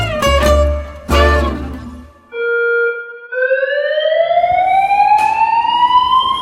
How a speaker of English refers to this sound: The alarm was incredibly loud, and I shot up out of bed with my heart racing and absolutely no idea whatsoever where I was or what was happening.